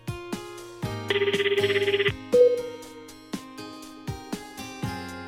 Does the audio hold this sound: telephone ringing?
yes